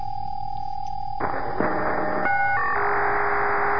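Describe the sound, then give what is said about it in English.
A scrambled radio signal, typical voice scrambling used in the United States for cell phones: a steady electronic tone that abruptly shifts into a harsh, buzzy, warbling noise with stacked tones changing in steps, loud and continuous with no clear speech. “right there, what you're hearing is typical voice scrambling here in the United States for like cell phones and stuff like that.”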